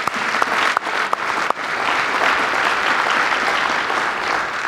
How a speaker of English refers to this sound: I think you might want to applaud that.